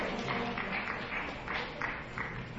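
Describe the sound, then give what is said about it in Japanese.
An audience applauds steadily for a few seconds, many hands clapping in a dense, continuous patter at a fairly soft level, with no voices over it, seeing off members of the Warawa-kai group as they leave. “これをもってお帰りになられますので、皆さんどうも拍手を送ってお見送りください。”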